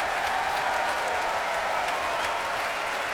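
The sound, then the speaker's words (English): A concert audience applauds steadily for principal horn William Caballero as all the brass players get to their feet, after an orchestra performance under music director Manfred Honeck. A dense wash of many hands clapping at an even, fairly loud level with no talking over it. “Applause there for William Caballero, principal horn.”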